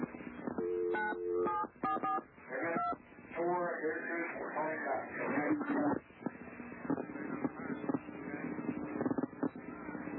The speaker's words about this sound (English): But listen as David Koresh dials 911. You can hear the 911 tones on the telephone.